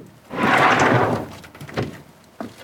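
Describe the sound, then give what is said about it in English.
A barge's hatch grinds as it is shoved back in one long, loud scraping slide, followed by a wooden clunk and a sharp thump as the doors are opened. No voices. “He shoves back the hatch, opens the doors and descends the steps.”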